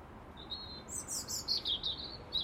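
bird, bird singing

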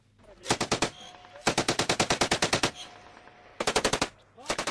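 impact, gunfire

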